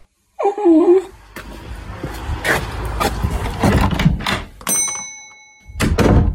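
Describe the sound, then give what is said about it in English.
A dog gives a brief, high, wavering whimper at the start, then a run of dull thumps and door-like knocks with clattering movement follows, ending in a burst of low rumble. “Can you get some milk and take the dog with you?”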